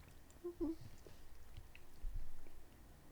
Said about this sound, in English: A lot of mouth sounds this episode. Yeah, I'm so sorry. This is so gross. Could I edit this all? This episode's going to be 4 minutes long for all the editing I'm going to do. We'll just edit out all the chewing sounds.